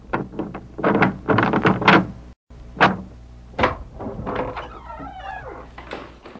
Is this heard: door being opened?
yes